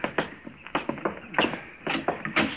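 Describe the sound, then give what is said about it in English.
A door being opened, heard as a quick series of sharp clicks, knocks and rattles from the latch and handle, with no one speaking. “Here, I'll get the door.”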